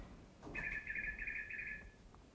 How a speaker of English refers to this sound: You have a bird here now.